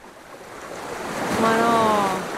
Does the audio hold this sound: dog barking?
no